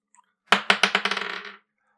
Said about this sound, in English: But for now, we're going to roll the dice and see what next week's topic could be.